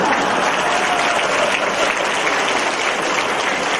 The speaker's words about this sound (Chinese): 你们知道为什么现在鼓掌人不多啊？因为讲到太太不好了，所以太太都不鼓掌。